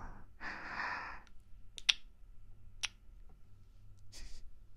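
A breathy exhale, then a few soft, wet kissing smacks very close to the microphone, spaced about a second apart, ending with another airy breath; no talking.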